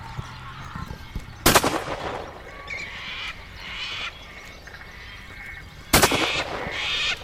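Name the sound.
rifle shot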